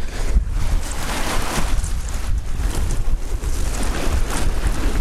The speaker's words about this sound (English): Ooh, right down to the water's edge now. You can hear the water coming in.